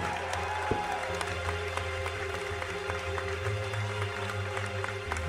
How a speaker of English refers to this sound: A big hand of applause for